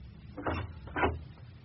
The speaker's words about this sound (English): I was dressing for dinner when someone knocked on my door.